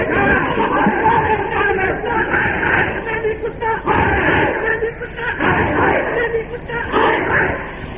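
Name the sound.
crowd chanting a slogan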